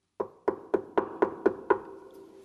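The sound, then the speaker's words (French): A quick series of seven firm knocks on a wooden door, evenly spaced, each with a short hollow resonance, followed by quiet. “Couleur éclatante pensait qu'Agile était à la maison et frappait en vain à la porte.”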